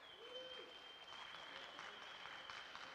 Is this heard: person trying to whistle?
no